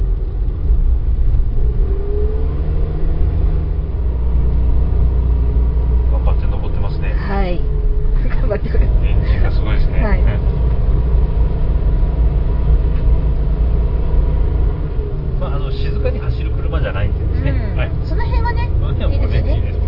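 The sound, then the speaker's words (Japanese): A Suzuki Jimny kei car's engine drones steadily throughout, a loud, constant low rumble as if heard from inside the cabin while climbing a winding uphill road in fog, with brief bursts of voice over it. “やっぱね、軽自動車だからエンジンがちょっとね、うるさいですね。”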